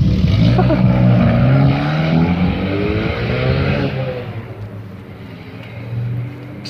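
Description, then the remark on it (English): A car flying a flag through its sunroof revs loudly, its engine pitch climbing and sweeping as it drives past, then fades into a lower rumble as it moves away. “Some idiot in a car flying a flag through his sunroof.”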